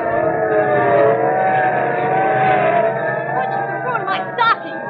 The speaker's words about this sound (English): Okay, listen, sirens. Yeah. Look, police cars, and are they rolling? And we better start hopping. They're not slowing down for anything.